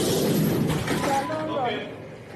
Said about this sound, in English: This is a woman just straight up trashing the place.